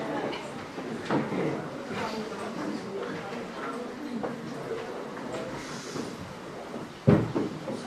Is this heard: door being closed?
yes